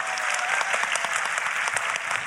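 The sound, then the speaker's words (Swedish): Sustained audience applause, given for the audience themselves at an evening show, fills the whole stretch, a dense, steady patter of many hands clapping at once, loud, with no voices standing out. “En applåd till er.”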